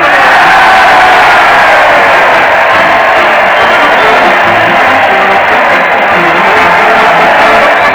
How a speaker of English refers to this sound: Listen to that crowd. They're cheering Fred Allen as he leads his weekly parade to the old Town Hall. Fred's leading the band with a Roman candle, and the Mighty Allen Art Players are right behind doing their best to dodge the spark.